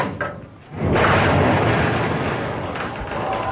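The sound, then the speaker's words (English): A dense, continuous din of many egg-laying hens clucking and chattering together in a large, retrofitted cage-free barn on a ranch swells in abruptly after a brief quieter moment, loud, filling the space without pause. “Hear how they're noisier? They sing more when they're in the cage-free house versus the cage house.”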